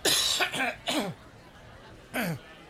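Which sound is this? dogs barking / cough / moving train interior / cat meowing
cough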